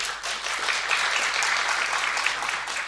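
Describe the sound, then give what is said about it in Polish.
Steady applause from an audience welcoming guest Paweł Woldan at the John Paul II Museum of Coins and Medals, a dense, even wash of many hands clapping at once, sustained at a constant loudness for the full three seconds with no voices over it. “Przywitajmy go oklaskami.”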